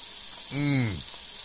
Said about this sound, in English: Crank up the flame now here, all right? Get the stuff bubbling. Burn that alcohol off.